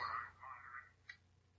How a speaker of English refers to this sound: All right. The fuck was that? That was a text tone. Oh, you're... I'm gonna put my phone on silent now.